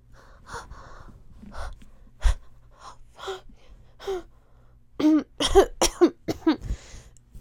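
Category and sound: human body sound, coughing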